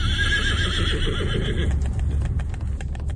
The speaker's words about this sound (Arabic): وفجأة أدار الحصان رأسه بسرعة، انفلت اللجام من يد السائس، صهل الحصان وابتعد بسرعة.